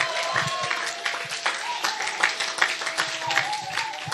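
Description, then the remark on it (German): A crowd applauds for the first Bible passage, Romans 8:32, with dense, steady clapping that fills the whole clip at a moderate level. A faint sustained tone and some voices can be heard underneath. “Und jeder, der die Bibel feiert, darf schon mal einen fetten Applaus geben für die erste Bibelstelle aus Römer 8, Vers 32.”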